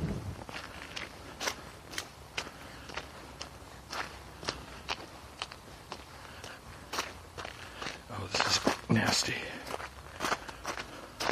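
Footsteps cross an icy street over water-slicked, still solid patches of ice at a steady walking pace, each step a sharp, gritty crunch, with a cluster of louder scraping steps near the end.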